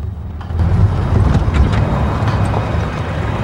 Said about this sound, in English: A car drives down a country lane and parks outside Mo and John's cottage.